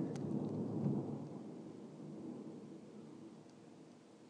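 A long, low rumble of thunder in Scotland rolls through, loudest in the first second and then slowly fading, with a steady hiss of rain underneath and no voices.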